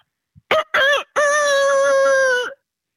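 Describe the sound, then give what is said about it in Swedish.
A person's voice imitates a rooster crowing: two short clipped syllables followed by one long, steady, drawn-out call, loud with no other sounds around it. “Härma en tupp.”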